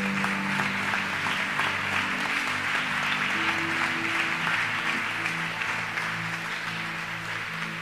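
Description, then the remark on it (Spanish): An audience applauds the King of Glory during worship, a dense, continuous wash of many hands clapping at an even, loud level, with sustained organ or keyboard tones humming underneath throughout. “Dale un fuerte aplauso al Rey de Gloria.”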